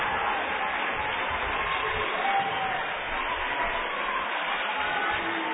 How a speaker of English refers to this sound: This crowd is rip-roaring excited.